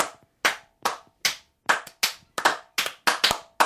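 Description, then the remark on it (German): Steady, rhythmic clapping from an audience: about nine or ten sharp, crisp claps at an even beat, some slightly doubled, with no voices over it. “Wo kommt denn das Publikum auf einmal her?”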